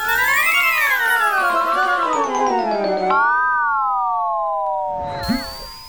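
A wavering, high-pitched squeal from a magic bone, like air escaping a deflating balloon, warbling and slowly sliding lower for several seconds before ending in a brief rough sputter. No one speaks.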